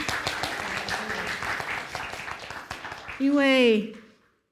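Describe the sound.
A church audience claps steadily for a few seconds to welcome the translator of the sermon, a dense, even patter, before a single voice speaks over the fading applause near the end.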